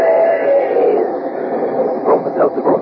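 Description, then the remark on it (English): A steam train sound effect in a radio advertisement for Bromo Seltzer headache remedy: a sustained whistle-like tone, then rhythmic chugging bursts that pick up toward the end, muffled and lo-fi, with an almost voice-like quality to the chuffs. “But when it's a common sick headache that's got you down, take this tip from our educated train.”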